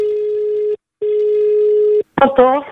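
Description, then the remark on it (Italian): Ringback tone of an outgoing phone call placed by a radio show to a listener in Tuscany: a steady mid-pitched hum sounds twice, a short burst then a longer one, before a voice briefly answers. “andiamo a chiamare i toscani e a chi risponderà invece di dire buongiorno diremo cucurù cucù”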